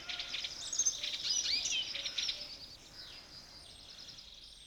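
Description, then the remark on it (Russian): A long-tailed tit's thin, high trilling song, a busy run of twittering notes for about two seconds that then fades to faint scattered chirps over quiet outdoor background. “Самое уютное гнездышко у долгохвостой синицы. Сейчас звучит ее песенка.”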